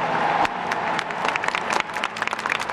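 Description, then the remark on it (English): Sustained applause from a crowd of thousands in St. Peter's Square on a Wednesday morning as Pope Benedict XVI makes his entrance, a dense wash of many hands clapping at once with scattered sharper claps standing out, steady and fairly loud throughout. “made his entrance into St. Peter's Square Wednesday morning to the applause of thousands.”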